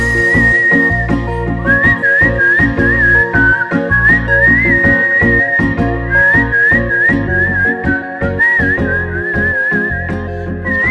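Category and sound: human body sound, person whistling a tune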